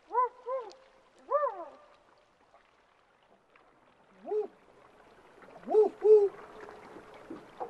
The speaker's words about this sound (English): Sounds to me like an owl on a nest, communicating with their mate, maybe about the progress of their nestlings, maybe I'm hungry, I'm over here, how about coming and feeding me?